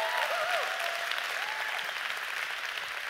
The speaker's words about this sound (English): So can we give Pastor James a hand clap and all the Bethel staff that's helped?